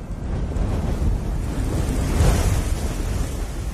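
A strong southeast wind roars steadily outside a window at midnight without a break, a dense low rumble with a gusty rush that swells slightly midway. Loud, with no voices.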